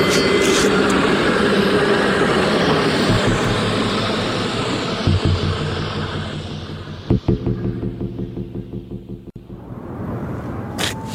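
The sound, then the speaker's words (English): A tram rumbles past, its broad mechanical roar fading as it goes, followed by a series of rhythmic clacks and clunks from wheels over rail joints. “That's my tram.”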